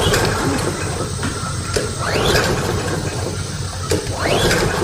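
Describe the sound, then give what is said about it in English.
A lawnmower's recoil starter cord is yanked twice, each pull giving a rising ratcheting whir, but the small engine never catches and only a steady mechanical hiss remains between attempts. “There's no need to pull your shoulder out of your socket. Gary is the small engine specialist, and he's your one stop for lawnmower repair”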